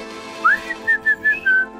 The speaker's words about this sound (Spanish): No, pero lo podemos hacer. ¿Me enseñás a silbar bien?